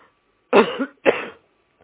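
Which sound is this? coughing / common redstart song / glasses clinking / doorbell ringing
coughing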